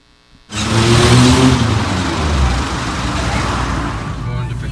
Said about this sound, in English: But we wanted to give you just a little bit of the experience of what it was like to drive there. And if you get motion sick, you might not want to watch this next video clip. But let's see what it's like to drive in Guatemala.